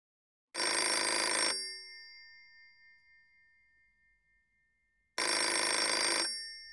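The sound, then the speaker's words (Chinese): A telephone bell rings twice, each loud, clangy burst lasting about a second and leaving a lingering metallic ring, with a pause of several seconds between rings. No one speaks. “啊，主人，您请休息吧，小雨去接电话。”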